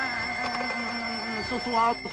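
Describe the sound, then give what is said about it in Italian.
A telephone rings steadily for about two seconds, a bright, sustained bell-like trill at moderate loudness, with someone speaking faintly underneath it. “Mi dispiace, ma io non rispondo a un telefono senza fumo.”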